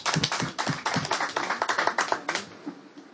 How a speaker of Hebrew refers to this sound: דקה, מחיאות כפיים לרב מקלב, חברים.